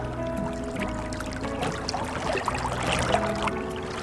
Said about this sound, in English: Let's ride in the boat.